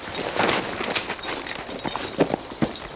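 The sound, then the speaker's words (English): Horse hooves clip-clop among trees in an uneven walking rhythm, a handful of sharp knocks standing out over a steady rustling background, fairly quiet. “With that, he ducked into the trees, and Brunn smelled horses.”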